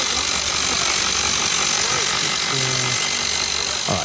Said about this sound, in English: just listen to the jackhammer